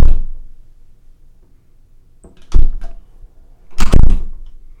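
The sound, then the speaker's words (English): A bathroom door swings and shuts with a solid thump, followed by a second louder bang about a second later, recorded as a binaural demonstration, with no talking. “We are going to do the close the door test by entering the bathroom and doing this.”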